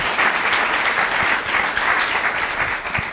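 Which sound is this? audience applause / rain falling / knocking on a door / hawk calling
audience applause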